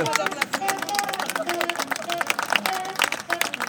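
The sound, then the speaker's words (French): A crowd applauds the festival of Saint-Coin, a small village, with dense, steady clapping that keeps a fairly even loudness throughout, while scattered voices and cheers rise faintly through the claps. “Vous pouvez applaudir la fête de Saint-Coin.”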